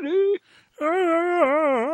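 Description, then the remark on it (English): A voice lets out a yodeling yawn, a brief tone then a long, wavering, warbling moan that rises and dips in pitch, like a growly Wookiee roar. The voice imitates the creature. “Tell us more in your yodeling yawn.”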